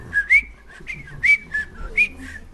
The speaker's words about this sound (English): Some people whistle, you know.